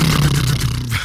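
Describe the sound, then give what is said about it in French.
A voice imitates a helicopter with a steady, low buzzing drone that holds loud and even for about a second, its pitch sinking slightly before it stops. “Ah, c'est un bruit d'hélicoptère, mais.”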